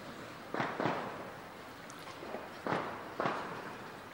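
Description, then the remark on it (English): Firecrackers burst in a loose, irregular series, four or five sharp pops coming in pairs with short pauses between, moderately loud against a faint background hiss, set off in celebration of a festival day. “It's being celebrated with so many firecrackers.”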